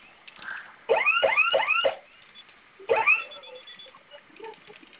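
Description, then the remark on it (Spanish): A security alarm panel, triggered as a test by holding its two flame-symbol buttons together for five seconds, bursts out in loud, repeating upward-sweeping electronic whoops, a quick run of four, then a pause and another short burst, with faint background sounds between, no talking. “Cuando se active la alarma, digite su clave nueva.”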